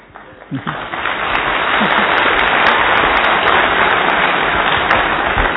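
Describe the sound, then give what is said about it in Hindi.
An audience breaks into applause, a dense wash of many hands clapping that swells within the first second and stays loud and steady throughout. “तो ताली बजाएंगे तो स्पीकर्स मोटिवेट होंगे और अंदर से अच्छा बाहर आएगा.”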